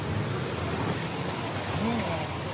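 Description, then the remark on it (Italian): Heavy rain pours down steadily on a street in Bangkok, a loud, dense, unbroken hiss of water filling the whole moment, with a faint voice briefly audible beneath it. “Tra meno di 10 anni sarà sotto il livello del mare, ma già adesso l'acqua, scacciata a forza con il cemento, si prende le sue rivincite inondando strade e negozi se solo piove per più di mezz'ora.”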